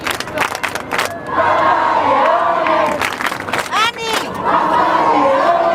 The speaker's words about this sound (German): Dann kurz vor 9, große Unruhe. Die erste Fahrt von Leo im Papamobil. Alle sind sofort auf die Stühle gestiegen, Fahne schwenken, Handy raus und dann die ersten Papa-Rufe.